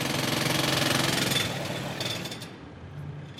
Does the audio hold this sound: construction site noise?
yes